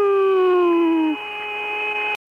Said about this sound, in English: But just as they approached the far side of the moon, the crew heard strange music. And that music even sounds outer spacey, doesn't it? You hear that? That whistling sound? Yeah.